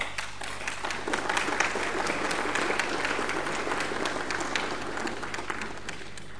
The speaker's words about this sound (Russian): Члены правительства тоже аплодируют, значит, они с этим согласны.